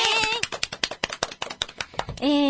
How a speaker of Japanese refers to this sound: はい、今回でですね、知ってる就活は第338回を迎えました。拍手。